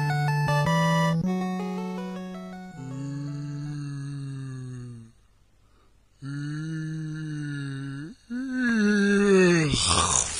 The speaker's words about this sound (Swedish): Nej, det var bara jag som gäspade lite grann.